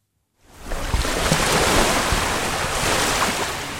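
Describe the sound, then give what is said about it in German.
Steady roar of waves breaking on a snow-white beach at Orange Beach, Alabama, under a blue sky with clear water, a broad continuous wash of surf with some wind, rising in after a brief silence and staying loud throughout. “Der Himmel ist blau, der Strand schneeweiß, das Wasserglas klar und das Ölleck allem Anschein nach gestopft.”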